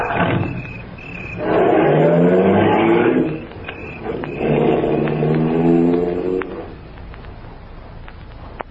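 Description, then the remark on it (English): A car engine roars twice in loud, drawn-out revving surges a few seconds apart, then drops back to a quieter rumble as the vehicle pulls away. “Roar after me like we're going someplace.”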